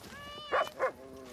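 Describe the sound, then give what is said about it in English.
A dog barks twice in quick succession, two short, loud barks close together, with a faint, steady whining tone running underneath before and after. “Darug warriors carrying woomeras, spears and axes hunted alongside white bushmen with their, quote, savage, muscular dogs.”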